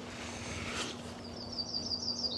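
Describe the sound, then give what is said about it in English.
A yellow-rumped (myrtle) warbler gives a rapid string of thin, high chirps in the second half, fairly soft, over a steady low background hum with no talking. “These are yellow rump warblers. Some people would call them myrtle warbler.”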